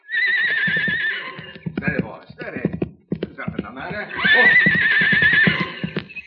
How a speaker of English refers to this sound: Hey, here he comes. Now get down and out of sight. Let the horse get a little bit past so he won't rear up.